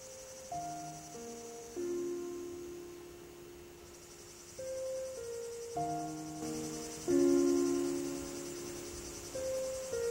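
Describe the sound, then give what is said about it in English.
Crickets trill steadily and continuously at night in a dense, high-pitched chorus, while a slow melody of sustained low notes plays quietly beneath them. No one speaks. “I sit here at night, listening to the frogs and the crickets.”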